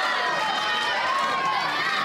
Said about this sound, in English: Good cheering.